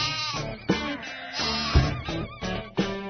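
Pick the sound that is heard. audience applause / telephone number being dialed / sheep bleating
sheep bleating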